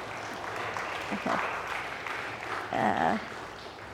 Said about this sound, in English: Everybody give him an amen or a round of applause, something.